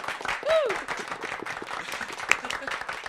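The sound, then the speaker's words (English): An audience applauds a new guest being introduced, with dense, steady clapping for about three seconds, and a brief rising-and-falling whoop or whistle cuts through near the start. “All right, calm down, crowd. Calm down. Stop clapping.”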